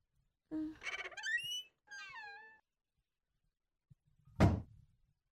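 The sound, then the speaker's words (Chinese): A door creaks open with drawn-out, wavering squeaks, then after a brief pause it shuts with a single solid thud. Nobody speaks. “你不想进来，你开门干嘛？关上！”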